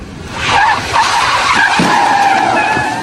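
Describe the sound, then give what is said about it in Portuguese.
A Fusquinha taxi brakes hard to a stop in front of the Teatro Municipal, its tires letting out a loud, wavering high-pitched squeal for about three seconds over a low rumble of the vehicle. No one speaks. “O táxi chegou, parou e eu abri a porta.”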